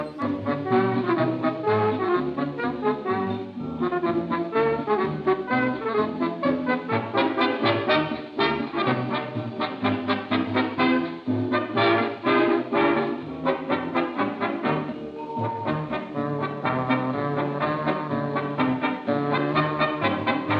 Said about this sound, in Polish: I za chwilę, kiedy orkiestra już sobie troszeczkę pogra, usłyszą państwo śpiewany fragment utworu